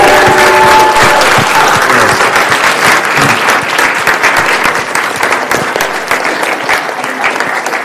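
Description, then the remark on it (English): Loud, sustained applause from a large crowd, given for Jesus: a dense wash of clapping that holds steady for the whole stretch, with faint cheers and a brief tonal voice early on. “Can we just give Jesus a giant round of applause?”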